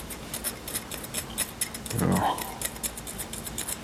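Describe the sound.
A steady run of crisp snipping sounds from scissors cutting, repeating quickly throughout, with a brief voice exclaiming partway through.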